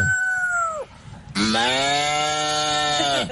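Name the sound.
human imitating rooster crowing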